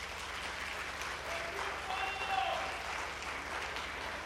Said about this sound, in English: let's be very clear, we're clapping for the Word of God because it doesn't matter which monkey opens the book.